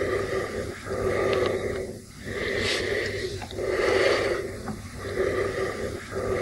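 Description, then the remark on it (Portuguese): Heavy, menacing breathing imitated by a voice, loud: several slow, raspy in-and-out breaths with short pauses between them, and no talking. It imitates Michael's breathing heard over the telephone in a film scene. “E daí ela só fica Karen, Karen, e só dá pra ouvir a respiração do Michael.”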